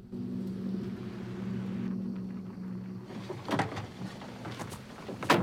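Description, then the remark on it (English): A car pulls up at night: its engine hums steadily at a low pitch, then cuts off after a few seconds, followed by several sharp clicks and thumps like a door opening and shutting. “She's brought back to reality by the sound of the car pulling up.”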